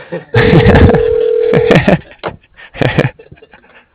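A telephone rings with a steady, mid-pitched electronic tone that holds for about a second and a half over busy background noise, followed by short bursts of muffled voices.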